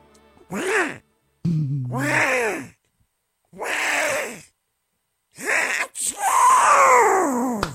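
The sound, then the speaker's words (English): A voice imitates a Donald Duck-style sneeze: several short, raspy, quacking bursts separated by pauses, building to a longer, loud, drawn-out final sneeze. “Well, amusing children for years and years, the Donald Duck sneeze is near and dear to my heart, ladies and gentlemen.”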